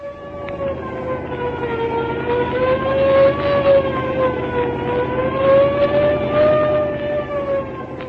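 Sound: police car siren wailing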